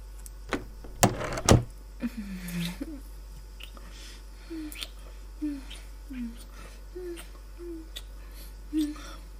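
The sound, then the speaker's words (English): A door is handled: a few sharp clicks and a loud thud-like clatter in quick succession, followed by a quiet stretch with faint, low murmuring sounds. “Hold on. Just let me get the door.”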